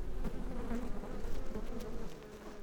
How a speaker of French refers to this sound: Il entendit un grand bruit et aperçut une ruche d'abeilles.